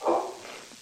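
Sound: sneeze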